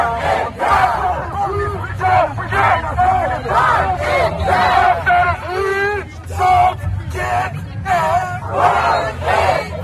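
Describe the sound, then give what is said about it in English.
A large crowd of protesters near the White House chants in loud, rhythmic unison, "If we don't get it, burn it down," voices rising together in repeated shouted phrases over a constant low rumble of background noise. “And we captured one of the audio clips where protesters are chanting near the White House, "If we don't get it," I believe that's referring to justice, "if we don't get it, burn it down.”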